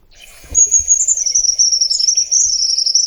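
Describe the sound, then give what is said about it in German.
A small bird sings a continuous high, thin song of rapid trilling notes, fairly loud, running steadily for a few seconds with no voices. “Also man hört schon, der Vogel ist so genau wie seine Größe eher zurückhaltend, aber hier kommt noch das Lied.”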